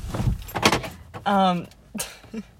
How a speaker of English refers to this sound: Hold on, I gotta close my door. Sorry.